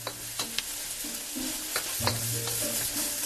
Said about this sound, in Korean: 양파를 팬에 듬뿍 넣고 갈색이 될 때까지 오래오래 볶는다. 양파가 갈색이 되면 좋은 단맛이 나니까.